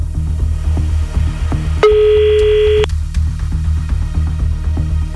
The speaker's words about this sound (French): Allez. Une sonnerie. Merci, mon effet.